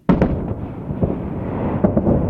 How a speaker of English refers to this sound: That's the sound of an aircraft breaking the sound barrier, a sonic boom. The sonic boom can damage structures and break glass.